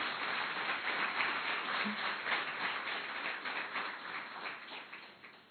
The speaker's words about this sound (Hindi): और विशेष दिन आज उनके लिए, सो अपने लिए भी, आज इनका जन्मदिन है। भाई तालियां तो बजाओ।